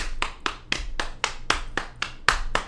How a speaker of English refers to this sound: And so you can practice this at home if you're tapping quarter notes, right? One, two, three, four. Then you start clapping or tapping triplets in your right hand.